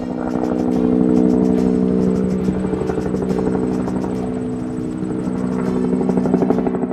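Helicopter rotor blades thump in a steady, rapid rhythm over a loud engine drone, sustained for the whole stretch, with no voices, as helicopters fly back and forth without pause over the Mersad battlefield in the mountains of Iran.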